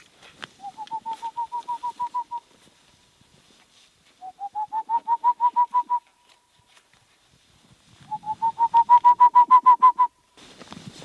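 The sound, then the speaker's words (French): A bird calls at night in March or April, as the birds prepare to breed, in three separate bursts, each a quick, even series of about a dozen clear, hooting notes that rise slightly in pitch, with short silent pauses between bursts and no talking. “Ces oiseaux sont en train de préparer leur reproduction, donc ils se manifestent beaucoup.”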